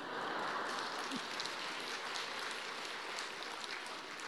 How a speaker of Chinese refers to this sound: 下面鼓掌鼓得很卖力的都是过去的美女。